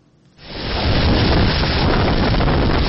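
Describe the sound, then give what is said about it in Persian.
Violent tornado winds roar in abruptly after a brief quiet moment, then sustain as a dense, loud, buffeting rumble with heavy microphone distortion, recorded at night by a school surveillance camera in southern Mississippi near the Alabama border. No one speaks. “لحظه طوفان در نزدیکی مرز آلاباما در کامیراهای نظارتی یک مکتب در جنوب میسیسیپی ثبت شده است.”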